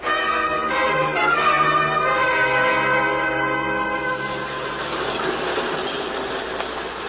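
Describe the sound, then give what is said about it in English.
A subway train pulls into a station, steady and loud, with high metallic squealing tones for the first few seconds, giving way to a broad rushing rumble. No voices are heard. “On the subway platform, I took the obvious precaution.”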